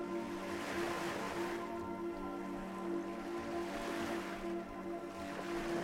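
Ocean waves wash onto a beach in slow, rolling surges, each swell building and fading. A steady low hum runs underneath, and no one speaks.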